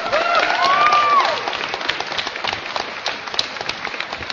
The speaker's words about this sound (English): But a round of applause for everyone who was here. Round of applause, big round of applause, huge cheer for our quiz host